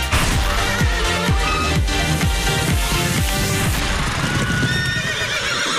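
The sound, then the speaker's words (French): A horse neighs loudly, a long whinny with repeated rising and falling pitch over rhythmic hoofbeats, with no one speaking. “De quel cheval s'agissait-il?”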